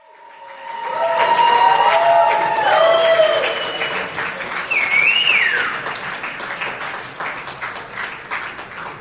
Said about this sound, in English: Supporters of former US President Donald Trump applauded his arrival at the place where it all began, Trump Tower in Manhattan.